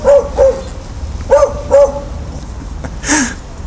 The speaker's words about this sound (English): Dog on the internet recording. Can you? And it isn't my dog either. It's not Toffee.